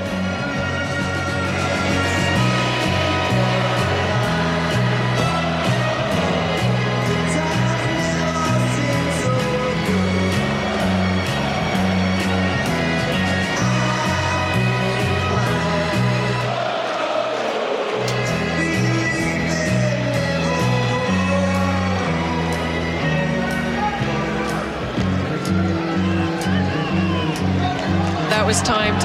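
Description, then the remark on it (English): A large crowd at a Carlos Alcaraz tennis match sings a chorus together in a loud, steady, rhythmic chant of sustained sung notes, with a brief dip midway before the singing swells back up. “Are they going to do the chorus?”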